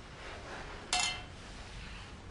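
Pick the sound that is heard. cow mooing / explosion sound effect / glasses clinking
glasses clinking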